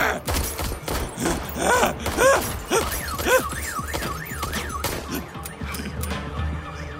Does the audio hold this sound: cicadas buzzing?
no